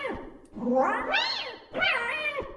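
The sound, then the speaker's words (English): A cat meows twice in quick succession, each call a drawn-out, rising-then-falling wail, fairly loud, with no voices over it. “There is a sound coming. A kitty cat.”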